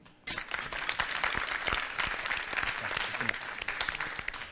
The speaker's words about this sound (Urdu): یہ لگتا یہ ہے انہیں ان کی حوصلہ افزائی ہو جائے زوردار تالیوں کے ذریعے.